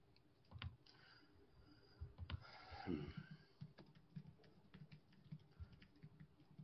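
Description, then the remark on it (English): Irregular clatter of keys being typed on a computer keyboard, fairly quiet, with a brief flurry of faster clicks in the middle and no voices. “Just so you guys know, when you're typing on this, you can hear it.”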